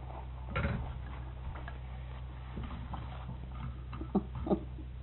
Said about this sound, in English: It's starting to rain.